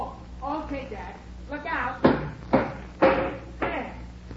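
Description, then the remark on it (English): Someone speaks briefly, then four sharp, solid knocks strike a wooden bathroom door at a steady pace, knocking out the sawed-out piece of wood around the doorknob. The blows are fairly loud. “see if you can knock that piece out. What piece? The piece of wood around the doorknob that I just sawed.”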